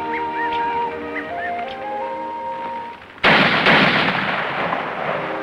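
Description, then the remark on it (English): After a few seconds of soft, steady tones, rifle gunshots fired by two teenage boys aiming at birds in a clearing suddenly crack out loud, two sharp blasts in quick succession whose echo rolls on and slowly fades. “As the girl rushes toward the sound of the gunshots, the boys find the pup lying on his side.”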